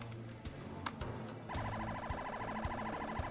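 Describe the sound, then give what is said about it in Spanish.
A police patrol car siren, responding with an ambulance to a scene at a University of Miami dormitory, wails in rapid, repeating yelp cycles starting partway through, loud over a rumbling low-frequency background of traffic or engine noise. “Una patrulla de la policía y una ambulancia acuden a la escena.”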